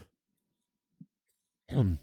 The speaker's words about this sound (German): Entschuldigung, ich muss noch kurz husten.